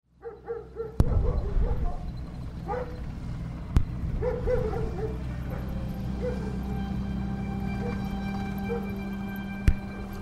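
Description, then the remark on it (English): Sergeant Stubby, the First World War street dog turned soldier and America's most decorated war dog, barks a few times and whimpers, with sharp bursts early on and softer whining cries over a steady, droning background. “Sergeant Stubby of the First World War, the heroic story of America's most decorated war dog.”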